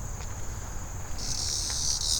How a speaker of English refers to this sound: That's a cicada. Just flew right over me. And now he's flying off into the trees somewhere else. That was a cicada. He tried to attack me.